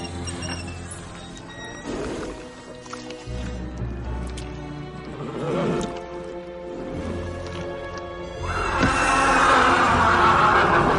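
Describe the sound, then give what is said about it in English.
A horse named Big John, an ornery horse bought at auction three months earlier, neighs and snorts with a few scattered hoof clops, building to a louder, breathier whinny near the end. “You may be the best horse trainer in Missouri”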